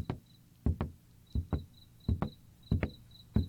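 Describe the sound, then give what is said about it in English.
A door being locked: a series of heavy clunks arriving in quick pairs about every two-thirds of a second, with a faint high-pitched tone chirping intermittently in the background. “Cutie, lock the door and let's get out of here.”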